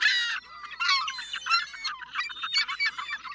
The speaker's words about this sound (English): With white and gray feathers, a piercing stare, and noisy screams, the American herring gull is what most folks might call a seagull.